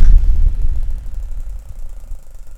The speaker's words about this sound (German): Aber weißt du was? Digga, du kannst den Ventilator doch nicht ins Mikro stecken. Mach den wieder aus. Mach ihn wieder aus!